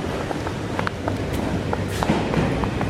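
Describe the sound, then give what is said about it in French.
A metro station escalator hums with a steady mechanical rumble, broken by light, irregular clacks and footstep-like knocks, against a wash of station noise. “Là, on entend l'escalator, là.”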